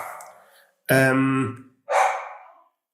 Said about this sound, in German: Ich bin, hörst du? Da ist es. Da bellt sie. Und klingelt niemand, läuft nur jemand vorbei.